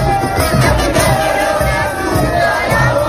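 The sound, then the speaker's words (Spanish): A huge crowd cheers and chants in the streets of Buenos Aires, Argentina, after Argentina's football win over Poland, a dense, steady roar of many voices with rhythmic shouting pulses, loud throughout. “Así, por ejemplo, es como sonaba la capital, Buenos Aires.”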